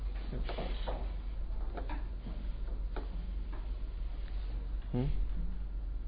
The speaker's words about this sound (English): Can't be a Shiva guy, he knocked.